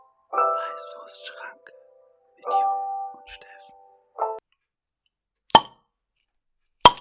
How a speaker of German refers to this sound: Yes! Wow, beide richtig einen knallen lassen, ja, ne? Das ist halt die neue Bierspende. Die plöppt noch. Die plöppt wieder.